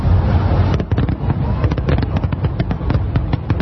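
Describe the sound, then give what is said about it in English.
Fireworks exploding in Aurora, California, for the US July 4th holiday, in a dense, rapid barrage, sharp pops and bangs tumbling over one another for several seconds over a steady low rumble, loud and continuous throughout. “Those were the sounds of fireworks in Aurora, California.”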